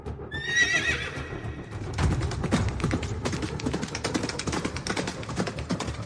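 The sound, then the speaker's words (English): A horse lets out a loud, shrill whinny, then hooves pound in a fast, steady galloping rhythm, continuing to the end with no one speaking. “They're trained to do things like going on a charge on a horse at full gallop and fire 3 arrows every second and a half.”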